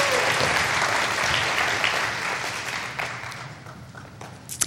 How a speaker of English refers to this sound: and clap offerings to the Lord. Yeah, for her. Amen. Amen.